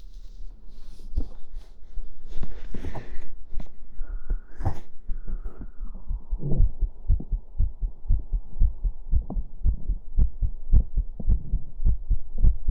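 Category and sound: medical sound, heartbeat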